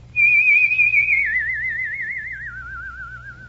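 A person whistles a single sustained tone with a strong vibrato, stepping down in pitch twice over a few seconds, loud with no talking.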